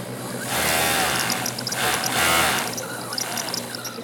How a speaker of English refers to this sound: Her sewing machine clacks away as she works on putting together the bottom half of a tanga-style bikini.